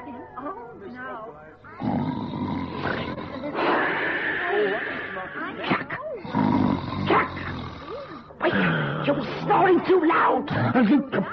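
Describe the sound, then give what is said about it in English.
Loud, exaggerated snoring done by a voice, as of someone dozing in a front-row seat during a play: several long, rasping, growling snores, each separated by brief pauses. “Maybe that's why my gentle snoring gave Myrtle the stone schluck”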